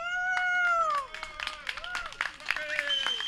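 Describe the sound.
An audience applauds, irregular claps crackling throughout, mixed with high whoops and cheering voices rising and falling over the few seconds.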